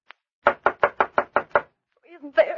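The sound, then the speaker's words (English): Seven firm, evenly spaced, loud knocks on the wooden door of a man's home, followed by a voice beginning to speak right after the knocking stops. “But when we reached his door, he didn't answer.”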